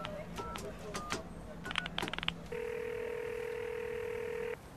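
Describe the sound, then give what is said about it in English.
A public phone handset clatters and a few quick keypad tones beep, then a steady, buzzing ring tone drones on for about two seconds before cutting off, clear with faint background hiss. “would ever have to use a public phone again.”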